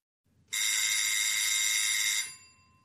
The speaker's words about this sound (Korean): 초인종이 울렸다.